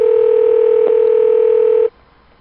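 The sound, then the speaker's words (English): A telephone line rings during a call to the Renaissance Manchester Hotel, with one steady electronic tone, held loud and clear for about two seconds before cutting off abruptly into near silence. No one speaks. “And that great comeback that they do when they just sit there and listen to the phone.”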